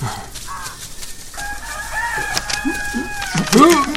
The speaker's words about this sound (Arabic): أنا رسالتي إلى القاضي وأشكو من الديك ومن صوته المزعج